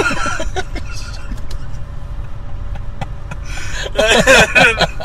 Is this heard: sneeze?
no